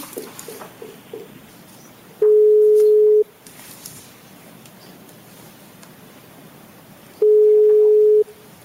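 A telephone ringback tone sounds twice while a call is being placed: two steady, clear one-second beeps about five seconds apart, with quiet line hiss and faint clicks between them.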